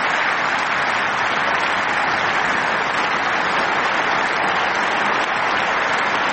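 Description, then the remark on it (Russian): Sustained, dense applause from members of the German Bundestag, a prolonged ovation welcoming Ukrainian President Volodymyr Zelensky at the start of his speech, steady and loud throughout with no pauses and no voices standing out. “В начале речи члены Бундестага приветствовали украинского президента продолжительной овацией.”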